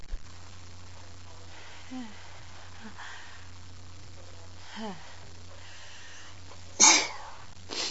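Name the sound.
sneeze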